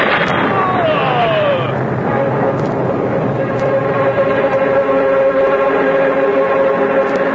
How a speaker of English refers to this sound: Oh, what a marvelous storm this is, Jason! Turn your helm and let us head for that mass of land over yonder. Perhaps we may find a sheltered bay and escape the storm.